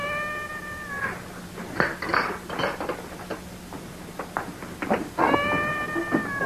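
A cat inside a wall meows in two drawn-out, wavering cries, one at the start and one near the end, with scattered mechanical clicks and creaks between them. There is no talking.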